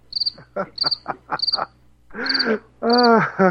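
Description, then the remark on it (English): Crickets chirp in short, evenly spaced high-pitched bursts, mixed with lower, raspy frog croaks that swell louder toward the end. It's a nighttime nature ambience with no voices. “Oh, we got the cricket. There it is.”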